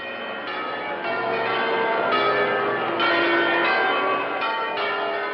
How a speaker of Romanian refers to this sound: Dumnezeu nu poate fi cumpărat cu niciun chip și la niciun preț, cu atât mai puțin cu prețul unui clopot, care trebuie să sune curat când își înalță glasul către cer.